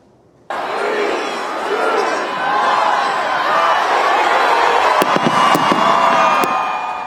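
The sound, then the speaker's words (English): A large crowd of tens of thousands on Fayetteville Street in downtown Raleigh roars and cheers continuously at midnight as the acorn drop rings in 2024 at WRAL's First Night Raleigh celebration, while fireworks go off, with several sharp cracking bursts near the end cutting through the steady wash of voices. “Yeah, that was the iconic acorn drop ringing in 2024 at the stroke of midnight.”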